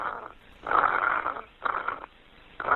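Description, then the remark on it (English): Heavy breathing comes through a muffled, tinny cell phone line on an emergency call: three or so loud, raspy breaths in a slow rhythm with quiet pauses between them, and no talking. “A recent emergency call from a cell phone, but what Haley heard on the other end of the line was heavy breathing, nothing else.”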